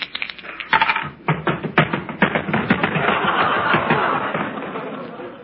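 A pair of dice rattles with quick, sharp clicks that build into a dense, continuous clatter, moderately loud, with a faint murmur of voices underneath.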